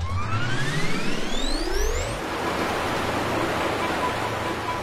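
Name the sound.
roaring waterfall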